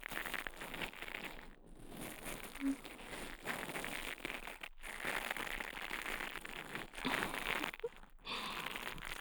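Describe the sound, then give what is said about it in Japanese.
A brush-type earpick massaging inside the ear: a steady, dense bristly crackling and scratching that runs almost continuously, broken by a few brief pauses, with no voices. “今度は、ブラシ型の耳かきで、耳をマッサージしていきます。”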